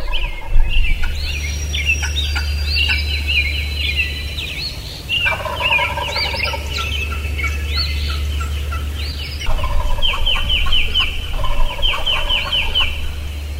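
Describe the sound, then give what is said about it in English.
A person uses a call to imitate a hen turkey that lives in the area, making repeated yelps and clucks in quick rhythmic runs, answered by turkey gobbling, over a steady low outdoor hum; a gobbler is up on an open ridge above a field. “there's a hen turkey that lives there that calls just like that, so I'm going to call like her”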